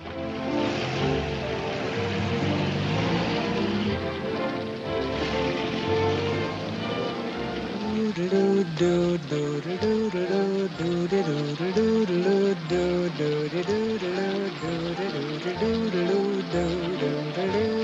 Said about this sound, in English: The rain is sluicing down.